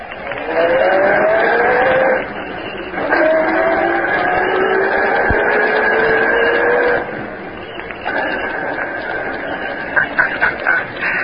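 A car engine roars and accelerates, its pitch climbing in a few surges before settling into a steadier, slightly quieter drone as the vehicle drives off.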